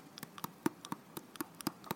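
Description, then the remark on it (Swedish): Someone imitates the sound of their own teeth chattering at night: a quick, uneven run of about a dozen sharp little clicks over two seconds, fairly quiet, with no talking. “Jag har ju börjat hacka tänder på nätterna. Åh, herregud. Vet du hur det låter då?”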